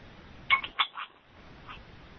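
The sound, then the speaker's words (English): Dishes being washed, heard over an unmuted phone line during a meeting call: three or four quick, bright clinks of crockery with a short ringing tone, then a fainter clink a moment later, over a low steady hiss. “Sounds like somebody's doing dishes also. Yeah, somebody's washing their dishes.”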